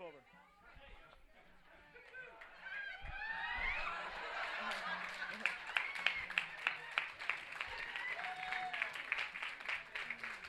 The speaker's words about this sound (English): Wow. That was definitely the winner right there. Let's give a round of applause to that one hand.